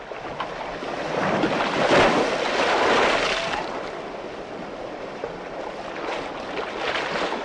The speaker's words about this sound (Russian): Сегодня с молодежным проектом «Давай повенчаемся» мы находимся на берегу Черного моря, а отправимся сейчас в Свято-Георгиевский монастырь, расположенный в южной части Севастополя.